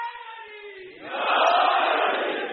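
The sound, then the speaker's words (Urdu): A lone voice calls out briefly, then a large crowd bursts into a loud, sustained chant of religious slogans during a sermon on the wilayat of Ali, the chant holding strong to the end. “مگر یہی روایت جہاں آپ کو جوش ایمانی نعرے لگانے پہ مجبور کر رہی ہے، یہ ولایت جو میرا موضوع چل رہا.”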